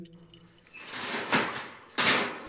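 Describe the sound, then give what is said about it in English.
Metallic keys jangle and clink for a couple of seconds, with two brighter bursts of rattling as the lock of a dungeon door is worked open. There is no talking. “Just open the door.”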